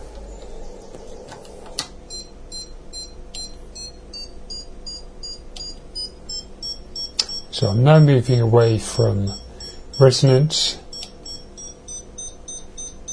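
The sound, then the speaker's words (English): An antenna SWR meter emits a continuous run of short, high-pitched electronic beeps, fairly soft, their rate increasing as the antenna is moved away from its resonant point. A man talks briefly over them partway through. “You should be able to hear the beeping increasing.”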